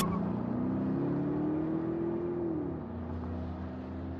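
A car engine revs as the car screeches out of a parking lot and out of Creekhaven, its low drone climbing steadily in pitch for a couple of seconds before settling into a steady rumble. No one speaks.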